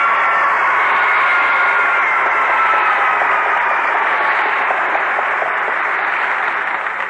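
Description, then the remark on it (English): An audience at the show Let's Pretend cheers and claps in a steady, loud round of applause, a dense crackling wash of hand claps that holds for about seven seconds without any talking. “Well, thank you for that rip, snort, and round of applause, pretenders.”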